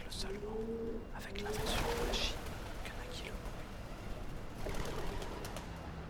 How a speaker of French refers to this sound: C'était donc roucoulement suivi d'un vol de pigeons.